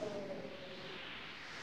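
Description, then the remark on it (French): A steady rush of wind whooshes for a couple of seconds, a broad airy hiss at an even, moderate level, with a faint tonal trace near the start and no voices. “Oh, ce vent!”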